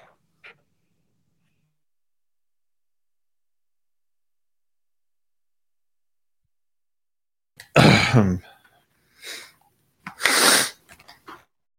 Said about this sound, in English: I mean, like, you talk about me crunching ice. That clearing of your throat was 10 times worse than anything.